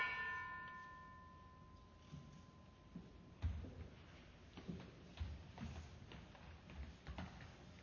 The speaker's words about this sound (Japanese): 私たちが二度と核兵器の使用を許さず、主が平和な未来を子どもたちに備えてくださることを信じてこの鐘をつきます。